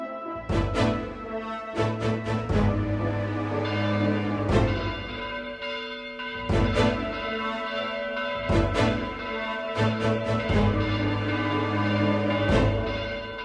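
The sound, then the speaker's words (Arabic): Church bells peal joyfully late at night in a lively, overlapping cascade, several bells struck repeatedly with long ringing overtones, loud, no voices present. “ما بعرف، الجرس عم بيدق فرح بآخر هالليل.”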